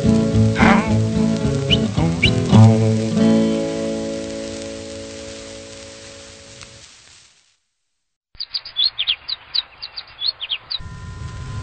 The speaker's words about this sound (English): I hope that you have enjoyed this recording and that these tiny feathered friends have left a song in your heart. You have heard birds from all parts of the world in song and in expression, all living in accord and in harmony.